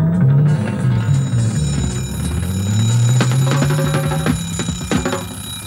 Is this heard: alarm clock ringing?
yes